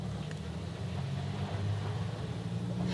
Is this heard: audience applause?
no